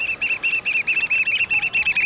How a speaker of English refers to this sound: We're crouching on a rocky shoreline on the Pacific coast, hearing the piping call of the black oyster catcher, a stocky black bird with bright red eyes and a stout orange-red bill perfectly suited for jabbing limpets and mussels.